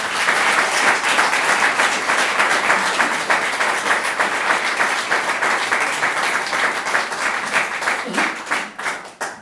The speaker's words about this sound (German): Ich glaube, wir kriegen gar nicht richtig mit, was die Männer und Frauen unseres Kirchenvorstands leisten. An Zeitaufwand, an Gesprächen, an alle möglichen. Und ich glaube, die haben es auch verdient, mal einen Beifall zu kriegen.